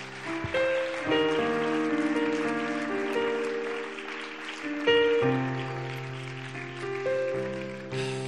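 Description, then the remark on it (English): An audience applauds its praise team steadily for several seconds, a dense patter of clapping layered over sustained keyboard or organ chords that shift beneath it. “Just want to say, can we just give a round of applause to our praise team?”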